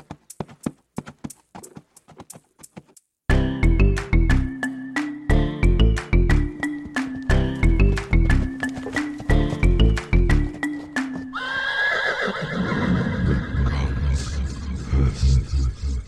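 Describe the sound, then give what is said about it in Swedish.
Rhythmic clip-clop hoofbeats trot alone, then an upbeat musical jingle kicks in over them, ending in a loud, harsh, horse-like whinnying burst. “i efterhand så har jag gjort en cool jingle här, veckans häst”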